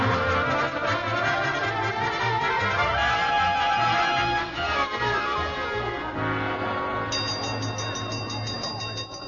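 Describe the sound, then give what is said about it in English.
A fire-drill gong clangs loudly and without pause for several seconds, a dense, rattling metallic ringing that holds steady throughout with no voices over it. “Boynton, what made you ring the gong for a fire drill?”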